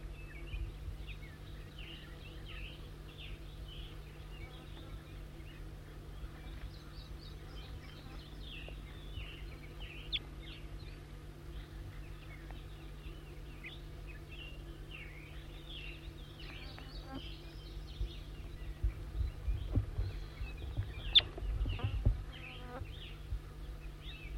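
wild bird calls

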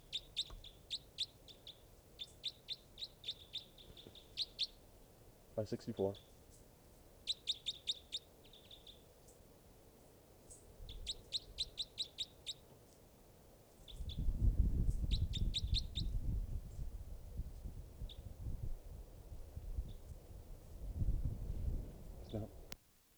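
bird chirping

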